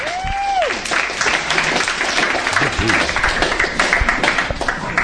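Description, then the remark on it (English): An audience claps steadily in a dense, continuous wash of applause, with a brief rising whistle at the start and scattered voices mixed through the crowd noise. “Sounds like the clap.”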